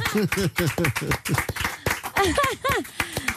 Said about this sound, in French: Applaudissements pour Thaïs.